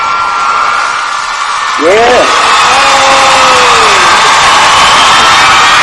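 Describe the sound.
Steady, dense applause fills the whole stretch, and partway through a voice lets out a rising-and-falling whoop, then a longer drawn-out cheering cry over the clapping.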